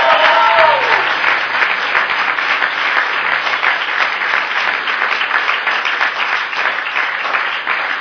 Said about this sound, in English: That is not how we celebrate people responding to Jesus. So I'm going to ask you once again to give them a proper hand and a cheer and applause.